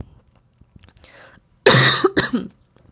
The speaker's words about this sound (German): Ja, und an diesen Husterern und an diesen Versprechern und an meinen Räusperern merkst du, dass ich voll im Fluss bin und dass ich meine Podcast-Folgen immer live aufnehme, wie es mir gerade kommt.